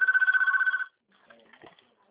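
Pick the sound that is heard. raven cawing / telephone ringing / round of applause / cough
telephone ringing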